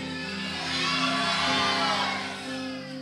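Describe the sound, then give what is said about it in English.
A large crowd shouts and cheers together during a sermon in a sustained, loud roar, voices overlapping with high whoops rising and swelling through the middle before easing slightly. “People began to shout because wherever Jesus was, listen, you shout it like you need something today.”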